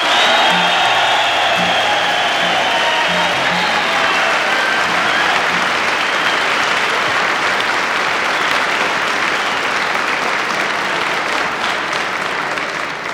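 A large crowd bursts into sustained, loud applause with cheering and whoops, a big cheer for the late musician, dense clapping holding steady for the whole stretch with no talking over it.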